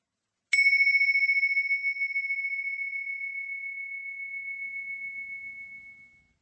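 A single meditation bell is struck once to start a meditation exercise, its clear, high ringing tone sustaining and slowly fading with a gentle wavering over about six seconds. No one speaks.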